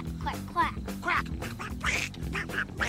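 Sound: voice imitating duck quacking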